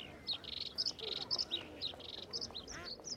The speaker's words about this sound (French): Une multitude d'oiseaux chantait joyeusement.